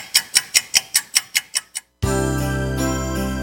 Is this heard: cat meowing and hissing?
no